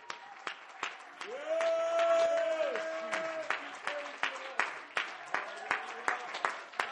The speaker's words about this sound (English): Would you just clap your hands for a moment longer, and would you worship God?